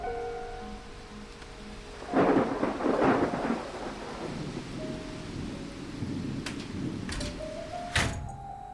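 Steady rain hisses throughout while a rumble of thunder rolls in after a couple of seconds, followed later by a few sharp crackling thunderclaps; no voices.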